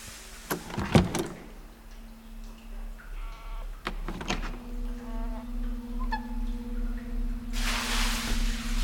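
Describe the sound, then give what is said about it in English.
A small motorized door closes, with a few sharp clunks, then a steady electric motor whine and hum, ending in a brief hissing rush as it shuts. “Closing.”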